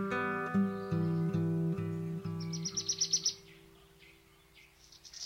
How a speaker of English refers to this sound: Music credits. …, ….